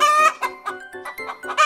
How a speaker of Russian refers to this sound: Ты кто? Кто? Я курица!